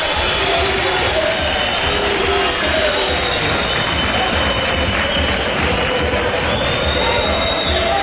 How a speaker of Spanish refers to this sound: Ahí está la afición de Peter. Tocando las palmas, Peter, la afición también.